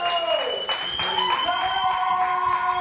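An audience at a comedy show claps steadily throughout, a dense wash of hands under sustained tones of music, with no single voice standing out from the noise.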